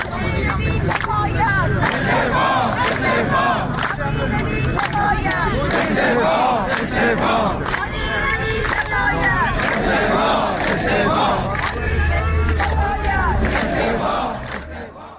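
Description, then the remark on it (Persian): A large crowd of social security retirees gathered in front of the Plan and Budget Organization in Tehran, Iran, chants slogans in loud unison, rhythmic shouted phrases repeating steadily over a constant roar of voices, dense throughout. “شعار تجمع کنندگان در تهران را می شنویم.”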